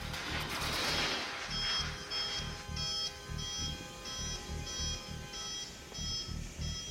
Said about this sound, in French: Coupez les alarmes. Alarme système Vito. Alarme système Vito.